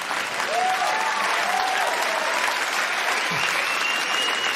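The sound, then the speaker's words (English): A crowd applauds steadily throughout, a dense wash of clapping at even loudness, with faint whoops and cheers rising above it for a few seconds. “Pointedly not clapping there, madam.”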